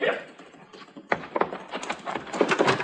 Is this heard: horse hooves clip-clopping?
yes